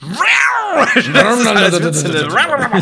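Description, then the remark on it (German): A man loudly imitates his father's snoring with his voice: one drawn-out, growling vocal noise that swoops up and down in pitch for about three seconds, strained and nasal, with no actual words. “Ich habe Oropax im Ohr, mein Vater schnarcht.”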